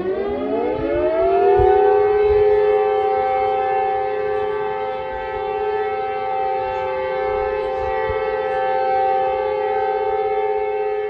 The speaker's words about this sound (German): Und wir haben einen Mitschnitt dieser Explosion, da hören wir kurz hinein. Ja, da ist die Explosion zu hören. Und kurz darauf startet schon die Sirene.